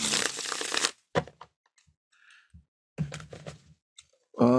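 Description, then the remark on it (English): A deck of tarot cards being shuffled, with a long riffling burst, a few sharp flicks and taps, then another rustling run of cards and a final loud shuffle. “But let's see what we got here. I'll shuffle them up.”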